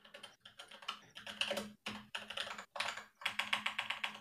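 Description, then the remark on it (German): Rapid, clattery keystrokes on a mechanical keyboard, fairly loud, coming in quick bursts with brief pauses between them. No one speaks. “So, jetzt kann man hier live on type meine schöne mechanische Tastatur hören.”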